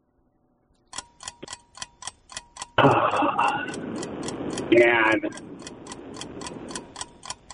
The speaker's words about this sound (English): Oh, that's all right. There's the timer.